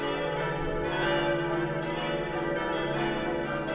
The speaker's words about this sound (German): Alle Glocken zusammen erklingen allerdings nur an ganz bestimmten Feiertagen